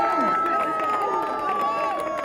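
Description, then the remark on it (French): A large outdoor crowd cheers and claps steadily for a group of marchers, with shouts and whistles rising over a continuous, loud wall of noise and mingled voices. “On peut les applaudir plus fort.”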